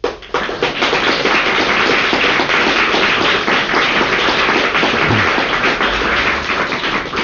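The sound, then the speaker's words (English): Steady applause from an audience, a dense, loud wash of many hands clapping at once that holds evenly for about seven seconds without any voices on top. “I think that you all ought to be applauded for getting through to where you did.”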